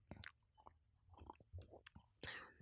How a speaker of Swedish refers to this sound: Gott med bubbel. Klunk.